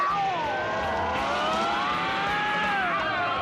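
The 314 bus to the next county pulls away with a loud engine drone, its whining tones sliding up and down steadily for several seconds over a rumbling background, with no voices.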